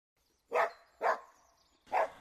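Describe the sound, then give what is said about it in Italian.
A miller's dog barks three times in the morning in an irregular rhythm, each bark short and fairly loud, with brief quiet gaps between them and no talking. “La mattina il mugnaio, con il suo cane, venne a trovare il suo giovane ospite.”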